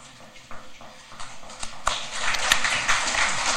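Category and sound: crowd, applause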